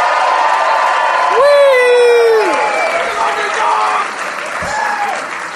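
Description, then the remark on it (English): A crowd at the Gramercy Theater in New York City cheers and claps continuously while a man in the front row lets out a loud, sustained, high-pitched scream, rising above the noise for about a second before fading back into the applause. “It's the scary kind of love when it screamed at you, "We love you! We love you! Listen to me!"”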